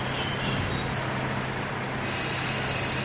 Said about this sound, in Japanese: 4番乗り場に列車が入ってまいります。ご注意ください。